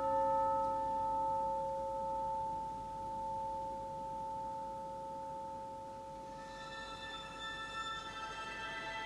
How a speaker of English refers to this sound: I brought a bell. Oh, this is a good beginning. Thank you. Arvo Pärt likes bells.